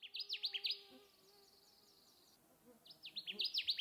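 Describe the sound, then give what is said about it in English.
A Connecticut warbler sings two loud phrases of rapid, repeated high notes, separated by a short pause filled with a faint, steady buzzing in the background. “We have a clip of the song of the Connecticut warbler, courtesy of the Cornell Bird Laboratory.”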